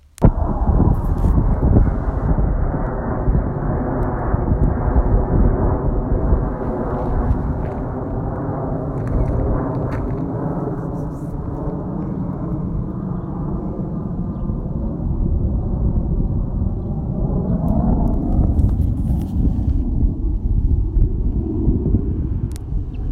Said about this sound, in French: Bon, un escadron de 4 avions de chasse viennent de survoler le site. Voilà. Ça s'était un petit peu calmé, mais là, ça reprend.